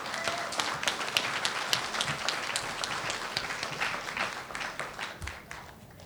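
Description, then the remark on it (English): A crowd applauds steadily at a meeting on health care reform, many hands clapping in a dense, crackling wash that holds its level for several seconds before tapering slightly at the end. No one speaks over it. “So let's hear a round of applause for something that's really important to all of us.”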